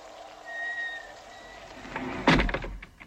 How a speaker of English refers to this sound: The door closed. I can't get it open.